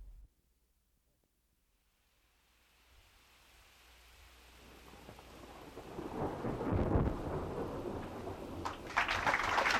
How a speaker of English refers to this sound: Meanwhile, Queen Azora has created a thunderstorm and has caught Jack and his men right in the middle of the Salt Lake.